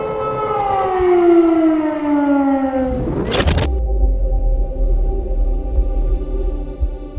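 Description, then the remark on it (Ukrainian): A loud air raid siren wails in Kharkiv, Ukraine, the first wartime siren of the invasion, its tone sliding steadily downward for a few seconds, then a sudden harsh burst of noise cuts in, leaving a low steady rumble with no voices. “Перша комендантська година та перша сирена, яка відтоді стала щоденним символом війни.”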